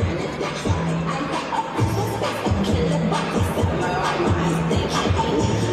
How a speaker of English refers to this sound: When the clock ticks, crowds are gathering, watching the annual ball drop fireworks countdown. New York Times Square to usher in 2024.